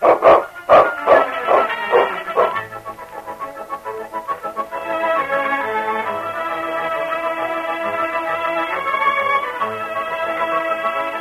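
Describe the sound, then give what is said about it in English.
A dog, King, barks loudly and rapidly in the radio drama Challenge of the Yukon, about half a dozen sharp barks in quick succession, before sustained orchestral music swells in and carries on alone. “That rotten dog.”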